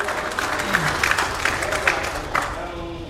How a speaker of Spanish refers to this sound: A Cristo un aplauso. A Cristo, hermano.